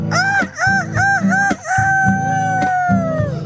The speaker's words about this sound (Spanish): El gallo que está ronco